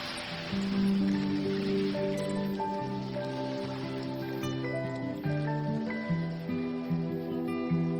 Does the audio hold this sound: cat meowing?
no